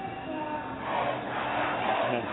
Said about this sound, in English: We're above Tahrir Square, where the crowd is getting larger and louder earlier than normal today.